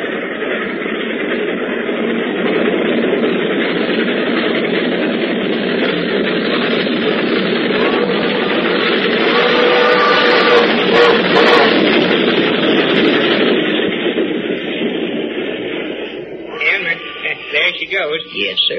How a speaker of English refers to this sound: Now, you boys just hush up for a minute, and I got an idea you're going to hear your train come through this cut.